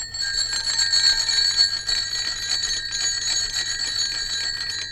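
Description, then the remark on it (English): Bicycle bells ring continuously, a rapid, bright metallic trill that keeps going for the whole stretch, loud, with a faint low hum underneath and no voices. “More authentic Bicycle Bells now.”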